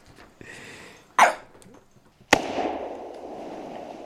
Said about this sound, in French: Oula, ça tire. Ouais, attention, il a pris deux balles. Hein. Ouais, il a pris deux balles.